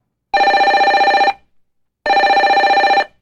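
telephone ringing

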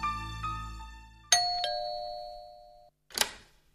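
doorbell ringing ding-dong

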